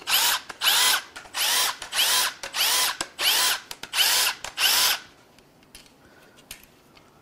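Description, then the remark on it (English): A power tool buzzes in eight quick bursts, each about half a second long, with brief gaps between them, as it zips loose the bolts holding the C-links to a control shaft. It goes quiet after the last burst, and no one speaks. “All right, now I'm going to zip all of those loose.”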